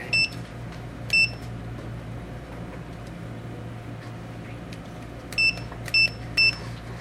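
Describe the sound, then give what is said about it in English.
A digital meeting timer for public comment speakers gives five short electronic beeps as it is reset, two near the start and three in quick succession toward the end, over a steady low hum with no talking. “We have to reset the timer.”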